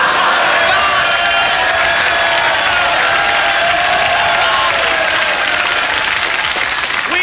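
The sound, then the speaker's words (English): A studio audience claps and cheers loudly and steadily, a dense wash of applause with a few whoops rising above it, holding at full strength for several seconds with no talking. “We have lately received a number of complaints that this program is too noisy and that our audience has been laughing too loud and clapping too much.”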